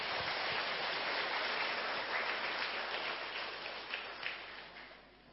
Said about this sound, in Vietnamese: Quý vị hãy phát tâm bằng cách dâng cao một tràng vỗ tay thật lớn nào.